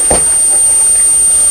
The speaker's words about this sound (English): Oh, I can hear a train going past. Somewhere? Where do you think the train's going to? Manchester. To Manchester?